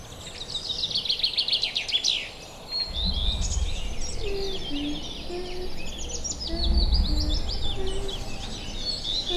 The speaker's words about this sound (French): Quelle belle journée! Je me promène dans un champ avec la belle mélodie des oiseaux.